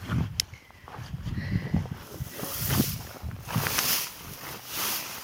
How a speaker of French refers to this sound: Bon, là, il y a du vent, mais il n'y a plus de pluie.